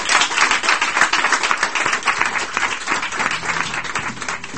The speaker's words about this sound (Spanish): quien te despida después de los aplausos de todos los oyentes para ti.